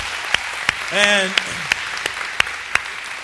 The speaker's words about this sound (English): And you can always applaud for that, by the way.